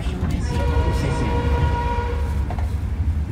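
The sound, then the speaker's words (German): A passenger train rumbles steadily as it rolls into the station at Luang Prabang, Laos, and stops, with heavy low-end mechanical noise, faint tonal whines and occasional clanks, and muffled voices in the background. “Der Zug stoppt in Luang Prabang.”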